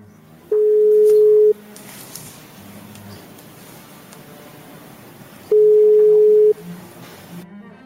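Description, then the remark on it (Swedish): Two long, steady telephone tones sound about five seconds apart, each lasting roughly a second, with faint background noise and murmuring in between as a call connects to a witness testifying by telephone in a court hearing. “säger att hon nu ändrat sig och är villig att ställa upp som vittne över telefon.”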